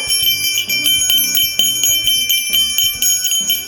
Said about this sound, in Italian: La mucca ha la campanella in collo. Ding dong dan. Ding dong dan.